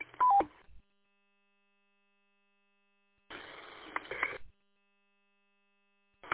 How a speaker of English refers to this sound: That four station, can you please turn off your Roger beep, please?